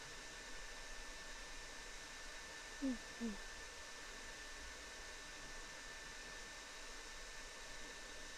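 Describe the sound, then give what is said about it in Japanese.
A hair dryer blows with a steady, even rushing hiss for the whole stretch, with two brief soft bumps partway through and no one talking. “はい、ドライヤー完了。”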